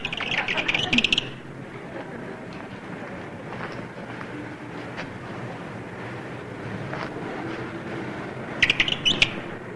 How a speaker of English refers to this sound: Some birds are answering me.